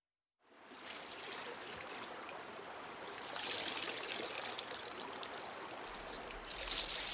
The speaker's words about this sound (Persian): اینجا رودخونه ترنره